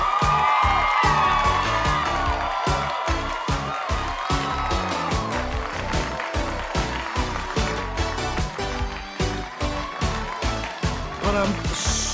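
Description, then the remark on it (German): A loud, continuous roar of an audience cheering and whooping in the virtual studio of the Nimbus 3000 quiz show Quizzitch, with rhythmic clapping pulsing steadily underneath for the whole stretch, no pauses in the noise. “Das Publikum flippt ja völlig aus hier im virtuellen Studio.”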